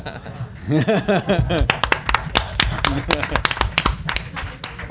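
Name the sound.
applause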